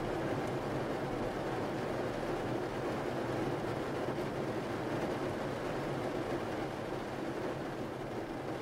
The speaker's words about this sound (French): Le son réconfortant de la pluie.